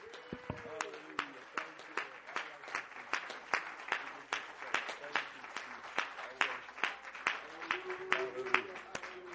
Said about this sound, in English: And would you clap your hands unto the Lord one more time?